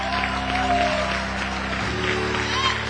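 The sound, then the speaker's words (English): An audience claps and applauds together in praise to God, a dense, steady wash of hand claps sustained throughout, with a low hum of voices and a faint tonal drone underneath. “Come on, give God the best hand clap you have.”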